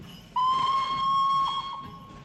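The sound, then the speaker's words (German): A single sustained steam locomotive whistle sounds loud and steady for about a second and a half, a bright tone with rich overtones, then fades into a soft background hiss. “Langsam schiebt sich der deutsche Traum dampfend vorwärts.”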